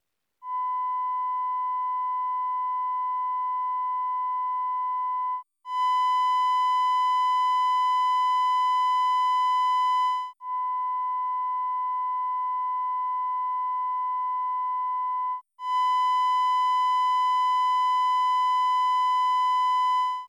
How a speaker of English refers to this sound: The 1000 Hz fundamental of the triangular wave is a simple sine wave.